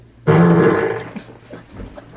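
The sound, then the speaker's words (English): A loud, buzzy fart noise blown with the mouth as a verdict on the TV show Hill Street Blues, a single raspberry lasting under a second, sharp onset then trailing off, followed by faint background noise and murmuring. “I have no right to make the fart noise that they just made.”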